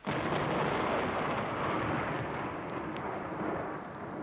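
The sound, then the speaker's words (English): A loud, rolling crash of thunder fills the whole moment, a dense roaring rumble that holds steady before easing slightly at the end, with no voices. “There was a flash of lightning and a crash of thunder.”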